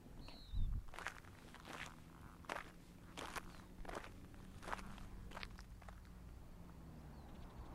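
Crunchy footsteps on gravel, about a dozen steady strides walking to a gravesite, with the low rumbling engine hum of a big truck running underneath throughout.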